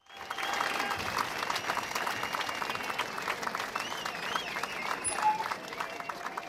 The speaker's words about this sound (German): Okay, okay, vielen Dank für den Applaus. Das war Gunsberts Megashow.